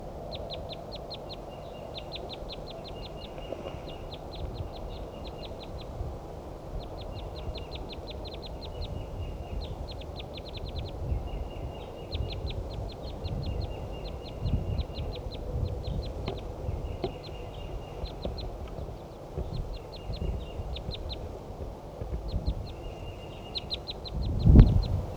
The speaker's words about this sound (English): It's a wild bird, wild female. Wild, wild, wild, wild, wild, wild. Two wild birds.